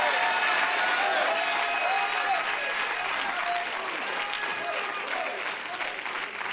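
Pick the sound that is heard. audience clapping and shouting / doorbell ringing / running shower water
audience clapping and shouting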